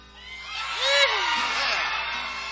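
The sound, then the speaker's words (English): A loud, rising whooping rebel yell rings out at Olustee, joined by a few overlapping shouts from a small group, the voices wavering up and then trailing off. “Do we have a rebel yell?”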